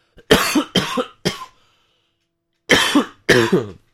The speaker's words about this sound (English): I need to cough.